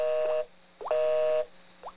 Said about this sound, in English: Oh, a line busy.